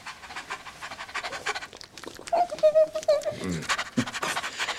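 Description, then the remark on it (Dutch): A small dog pants quickly and steadily, with some scuffling scratches and a short high whine partway through. “Het hondje schijnt u te kennen.”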